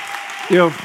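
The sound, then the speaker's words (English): An audience claps in a steady, dense wash of applause, and a loud, voiced cheer briefly rises above it midway before fading back into the clapping. “So again, where are the free people in the house today? Y'all need to make some noise.”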